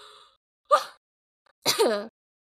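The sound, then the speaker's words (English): Someone coughs twice: a short harsh burst, then after a pause a longer, rougher one with a throaty, falling voiced edge, like a gagging cough. No one speaks. “See, I'm coughing because this is so gross.”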